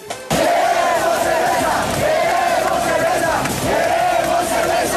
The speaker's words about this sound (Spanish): Mire, así fue como coreaban y gritaban algunos ecuatorianos en el partido frente a Qatar.